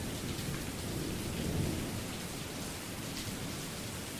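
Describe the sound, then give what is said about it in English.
Steady, dense rain pours down with a low, rolling rumble of thunder beneath it, heard from a porch: a continuous storm wash that swells slightly midway before settling back to an even roar. “Wherever we find this moment of storm, sitting here on this porch swing, may we find comfort through the promise of God's presence.”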